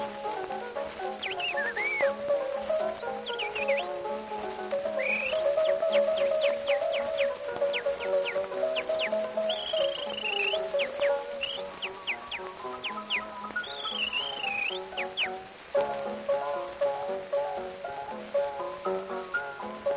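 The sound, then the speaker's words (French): A person whistles bright chirps, warbles and trills imitating birdsong, as if teaching the birds to whistle, rising and falling in quick bursts over a steady musical accompaniment, lively throughout. “Ah mais parfaitement, j'apprends à siffler aux oiseaux.”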